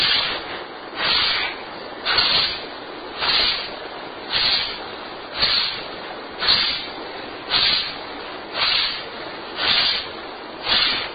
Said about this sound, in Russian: Не так быстро, давайте вместе подышим 30 раз. Синхронно. Низом живота, как шарик.